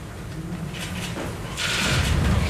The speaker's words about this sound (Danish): og nu går døren op, kan jeg se. Og vi rejser os op, og så vil jeg ellers overlade ordet til statsminister Helle Thorning-Schmidt.